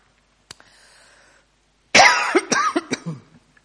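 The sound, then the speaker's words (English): A loud fit of coughing from a person irritated by air conditioning: one harsh burst followed by several quicker, rasping coughs in rapid succession, preceded by a soft click and a faint breathy sound. “Sorry about the coughing.”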